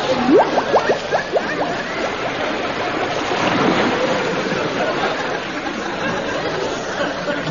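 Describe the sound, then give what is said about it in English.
Water splashes and churns steadily as a boat goes under, with a quick run of bubbling, rising gurgles at the start before the rushing wash fills the rest. “They're in the boat. I'm sinking.”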